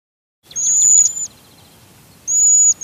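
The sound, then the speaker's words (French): A white-throated sparrow sings two clear, high, sustained whistled phrases separated by a short pause, prominent against a quiet background, with no voices. “C'est que le bruant à gorge blanche est difficile à voir, mais presque impossible à ne pas entendre.”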